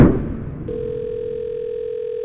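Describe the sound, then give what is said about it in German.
A short rustle as a phone handset is picked up to call Oliver of the Museum für Naturkunde, then a steady, unbroken telephone dial tone hums at moderate volume for the remaining couple of seconds, with no voices. “Ich rufe unseren Wassermaxe, Wasser-Olli mal an, was der so sagt.”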